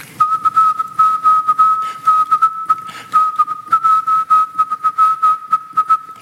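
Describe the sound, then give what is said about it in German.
Morse code sending a general call on amateur radio: a single steady, fairly high-pitched tone keyed on and off in quick short and long beeps over a constant hiss of radio static, with no voices. “Das ist DigiVoice, geht inzwischen auch auf der Kurzwelle. Morsen.”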